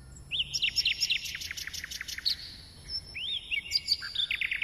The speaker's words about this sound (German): Die Nachtigall ist nicht irgendein Vogel. Vielmehr ist der kleine graubraune Piepmatz eine Art Heldentenor unter den Singvögeln. Keine andere Art zwitschert so schön wie er.